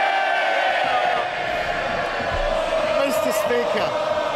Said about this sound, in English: Mr. Speaker, does he really expect us to believe that the member for Chipping Barton and the member for the Isle of Wight are cheering him on because he's going to build more homes?